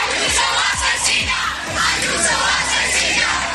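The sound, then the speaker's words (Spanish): A large crowd on a university campus shouts insults together, including "Ayuso asesina", at regional president Ayuso as she leaves; a dense, loud, continuous roar of many yelling voices, with a few low thuds in the first two seconds. “Por estos gritos de Ayuso asesina le preguntaba anoche Expósito.”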